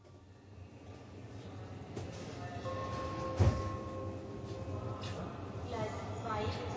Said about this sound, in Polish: Pociągiem z Aachen do Berlina jest prawie 600 kilometrów. Właśnie wsiadają do pociągu, a Ex cieszy się, że ich przedział jest zupełnie pusty.